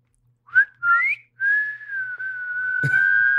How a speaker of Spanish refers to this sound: Y por eso, si escuchan silbidos en el bosque o en la selva, no los sigan.